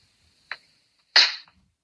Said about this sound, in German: Darf ich nochmal kurz klatschen?